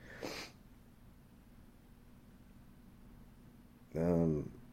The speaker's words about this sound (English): excuse me, fucking, I was about to sneeze.